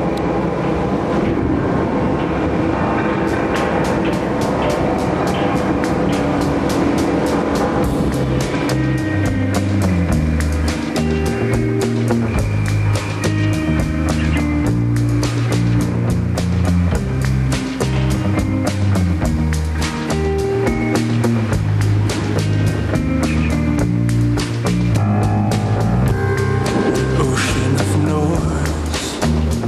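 An indie rock song plays on the radio station CITR 101.9 FM at a steady, loud level, with a dense full-band sound, shifting bass notes and bright cymbal-like texture. The section is instrumental, with no talking over it.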